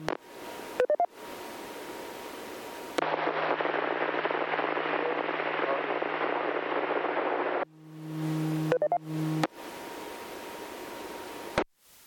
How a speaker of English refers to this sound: Did anybody get a copy on that? I heard static, but I'm not even sure I heard a voice. Could anybody hear who that was?